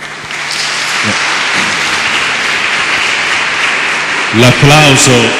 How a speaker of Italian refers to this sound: L'applauso dice di sì, dice di sì.